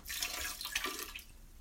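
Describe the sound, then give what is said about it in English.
Liquid pours steadily from a bottle into a sink drain, a continuous splashing gurgle lasting under two seconds, with no voices; exactly a third of the bottle is being poured down the drain. “I'm pouring exactly a third of this bottle down the drain because I'm getting more in tune with my body and I'm learning that when I drink the whole bottle, I black out and bad things happen when that happens.”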